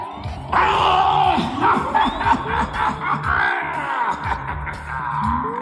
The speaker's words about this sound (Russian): Видимо, ведьма этим душераздирающим воплем хотела привлечь к себе внимание.